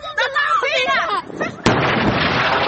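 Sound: explosions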